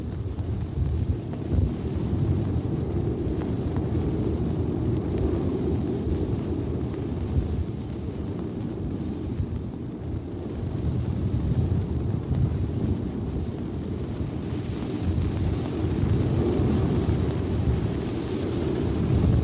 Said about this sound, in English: when it starts warming up like that jet, it just warms up the whole air all around the ship, the flight deck